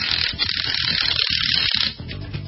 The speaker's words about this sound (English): Oh yeah, the sound of a rattle gun. Just means I have to lift those heavy tires on and off your car for a rotation.